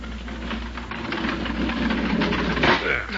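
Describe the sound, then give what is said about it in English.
A railway car door slides open onto the desert at dawn with a steady, heavy rattling rumble and mechanical grinding, building to a louder scraping surge near the end. No voices are heard. “Let's slide open the door and see what's happened.”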